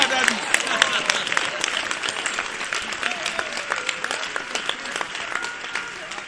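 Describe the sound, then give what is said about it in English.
A church audience claps steadily for several seconds, a dense crackle of many hands with faint voices mixed in, holding a fairly even loudness throughout. “It's good that you are clapping.”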